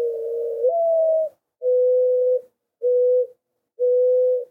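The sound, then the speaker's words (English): A mourning dove coos alone, clear: a drawn-out opening note that slides upward, then three shorter, mellow hoots spaced evenly after it. “Mourning doves, which nest on the ground, have been seen trying to raise 6 clutches of eggs in one season.”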